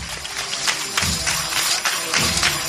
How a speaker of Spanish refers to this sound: Escuchad ahora cuando el paso comienza ahora a mecerse de otra manera distinta, con esas campanitas de su marcha.